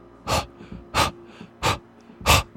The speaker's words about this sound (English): Or no, that was not her at all. A wet, rapid breathing. Waiting for me at the door to City Hall. What she had been fleeing from. The beagle puppy.